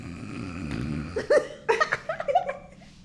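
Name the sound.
person imitating snoring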